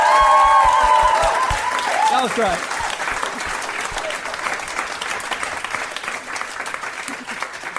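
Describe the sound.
An audience breaks into sustained applause after a report, a dense, steady patter of many hands clapping that carries on to the end, with a voice speaking briefly over the start.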